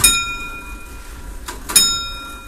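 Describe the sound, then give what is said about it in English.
An old clock chimes: a bright metallic strike rings out and lingers, then after a soft click a second strike sounds, its high, shimmering tones sustaining over faint background hiss. “When you're sitting in the room now, if you haven't done television on or anything, you'll hear a ticking. It's a nice tick. I always love the tick of a clock.”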